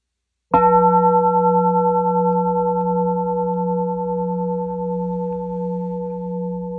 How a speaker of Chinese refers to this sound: 谁能告诉我这个声音是什么意思？它表达了什么意思？钟声、磬声，这个声音 有没有意思？为什么听到它马上就清静？